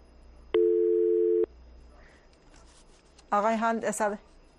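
A single steady telephone line tone, loud, holds for about a second and cuts off abruptly, followed after a pause by a brief burst of someone speaking, as a phone call is being connected.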